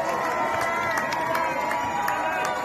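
crowd, crowd cheering

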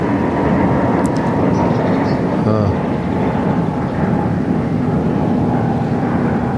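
vehicle, airplane flying overhead

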